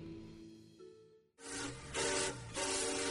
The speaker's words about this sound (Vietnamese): Rồi trên chuyến tàu về quê cuối năm, trong âm thanh xình xịch đều đặn của những chiếc bánh sắt lăn tròn trên đường sắt